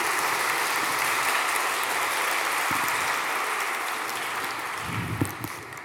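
Sustained audience applause, a dense, steady wash of many hands clapping at even loudness throughout, tapering slightly near the end with a few louder individual claps.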